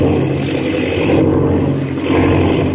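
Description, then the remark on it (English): A propeller airplane engine drones loudly and steadily throughout, a dense continuous roar with a slight surge near the end and no voices. “Jiminy, the plane. Binning, it's out of control.”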